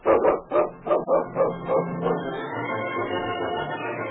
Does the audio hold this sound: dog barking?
yes